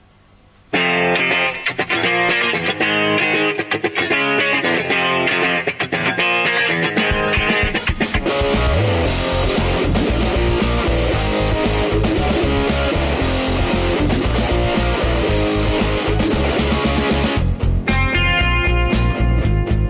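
A recorded pop song plays loud and close with no talking over it, opening with a lighter instrumental intro before drums and a fuller, distorted band arrangement kick in around a third of the way through.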